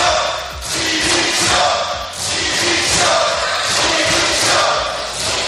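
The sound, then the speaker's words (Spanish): Loud, sustained shouting from the left-wing benches in a plenary session of the Assembly of Madrid, demanding the resignation of regional vice president and spokesman Enrique Osorio, rising and falling in rhythmic swells like a chant, with scattered thumps beneath the din. “Estos gritos de dimisión que escuchas parten de toda la bancada de la izquierda y van dirigidos al vicepresidente y portavoz regional Enrique Osorio por estas declaraciones.”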